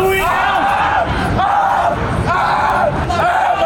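A man screams in pain, letting out a series of loud, strained cries that rise and fall in pitch, about four anguished bursts over a noisy, crowded background.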